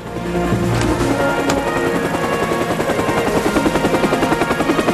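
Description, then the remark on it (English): A sleek blue helicopter rises carefully out through overhanging foliage, its rotor thumping in a steady, rapid rhythm, loud, with a dense mechanical whine beneath it as the engine runs at full power. No voices are heard. “The sleek blue aircraft rises carefully out through the overhanging foliage.”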